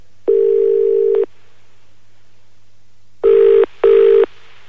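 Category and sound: signal or alarm, telephone call ringing tone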